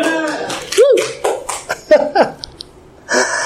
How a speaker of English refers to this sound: is applauding that. He likes that.